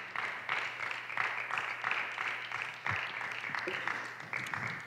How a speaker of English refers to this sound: Let's give God a good hand once again. Thank you, Jesus. Praise his holy name. At home, clap your hand unto God.